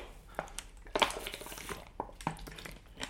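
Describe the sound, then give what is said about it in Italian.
Someone takes a quick sip of water: soft clinks and plastic crinkles from a glass or bottle, a few faint clicks and a swallow, with no talking. “Io bevo un goccio d'acqua.”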